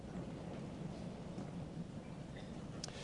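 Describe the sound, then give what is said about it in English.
Steady rain hisses continuously and fairly softly, with a low, rolling rumble underneath and no voices. “Here we are once again on a rainy Sunday.”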